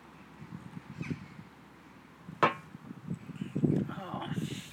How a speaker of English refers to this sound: I wonder what those birds are. Are they? I don't think they're gulls. I don't know. Haven't heard any seagulls here. I think because we're a little bit inland.